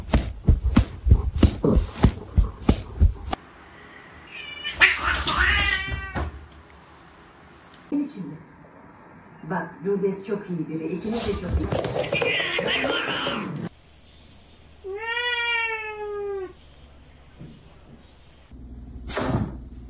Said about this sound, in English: Bear, let him out the basket. Who does that? Look at the poor cat.